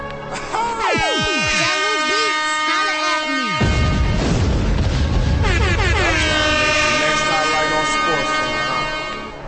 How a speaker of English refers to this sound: He really put them horns on the dog. The reggae tone horns.